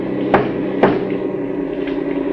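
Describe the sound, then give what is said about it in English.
Three knocks on the back wall of a truck cab: two sharp, hard raps in quick succession, then a softer third, all over a steady low engine drone with no talking. “Three knocks on the back of the cab.”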